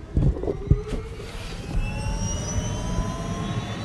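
A helicopter engine starting up before heading out across the savannah of southern Sudan, with a turbine whine climbing steadily in pitch over a deep, rumbling roar. A few knocks and clatters come early on.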